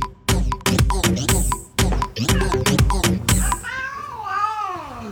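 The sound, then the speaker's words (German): Sharp, rhythmic percussive hits fill the first few seconds, then a tomcat with its claw stuck in a sofa lets out a drawn-out, wavering meow near the end, fairly loud, as it is being freed. “Wie, der Kater hing im Sofa fest?”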